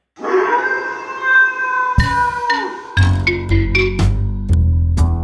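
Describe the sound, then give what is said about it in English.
A person lets out a long, wavering dog-like howl for about two seconds, then loud rhythmic instruments with sharp percussive hits take over. “Go down to the river and bark at the moon.”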